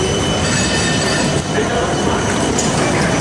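A loud, steady rumble of a tram rolling by on the Leidseplein in Amsterdam, with high metallic squealing from the wheels on the rails, sustained throughout amid busy street ambience.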